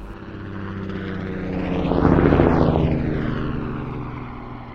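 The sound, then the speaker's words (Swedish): A Mi-26 heavy helicopter, NATO name Halo, roars past with engine and rotor noise, building to a loud peak midway before gradually fading as it moves away, with a deep steady drone underneath and no voices. “Det är ett annat namn på en helikopter.”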